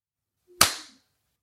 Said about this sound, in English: Who clapped like 10 minutes later there?